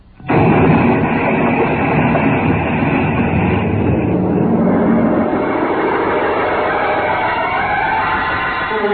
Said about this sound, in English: You cleared the ship just as she exploded. The blast hurled you both out into space like a couple of rockets.